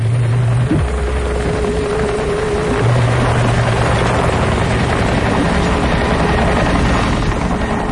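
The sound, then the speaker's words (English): A helicopter hovers overhead, its loud, steady rotor roar and engine drone filling the air without a break, with a low hum underneath and no voices. “Were there helicopters at Dealey Plaza?”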